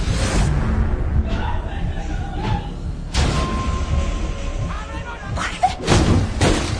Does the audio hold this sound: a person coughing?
no